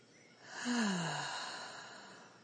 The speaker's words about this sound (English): Boy, that bird wanted to get in on the prayer, huh? Yes. Prayer time for the birds. So sweet.